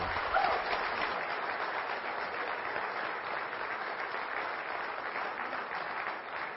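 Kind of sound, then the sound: crowd, audience clapping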